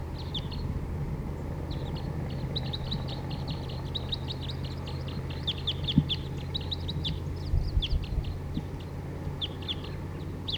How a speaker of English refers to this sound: Wild birds. And song by a wild bird there.